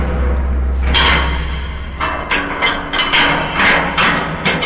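Inside the inspection corridors of the Grande Isance dam wall: a steady low rumble underlies a run of loud, ringing clanks and knocks at irregular intervals, with no voices.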